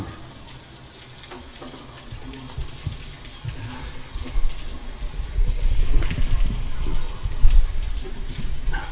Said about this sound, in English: I think the rain is coming in the door.